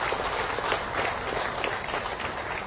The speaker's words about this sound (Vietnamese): Xin quý vị trên một tràng vỗ tay thật lớn.